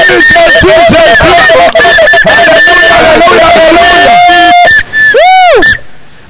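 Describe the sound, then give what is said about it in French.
A church audience erupts in loud, joyful shouting to acclaim the word of God, many voices overlapping in high cries and whoops, with a long held call and a swooping, rising-and-falling yell before it fades. “Acclamez la parole de Dieu avec des cris de joie.”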